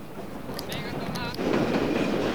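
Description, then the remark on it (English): A train carrying civilians and Panamanian soldiers rattles steadily along the tracks cross-country, a continuous rumbling clatter with a few sharp metallic clicks and faint squeals, growing slightly louder and fuller toward the end. “The train rattles on cross-country.”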